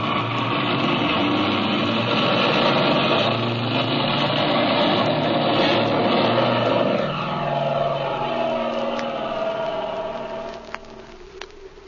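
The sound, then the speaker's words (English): A propeller airplane engine roars steadily as the plane takes off, its droning pitch shifting partway through before the sound gradually eases and thins toward the end. No voices are heard. “Now step on it, kid. You've got lots of room to get off in.”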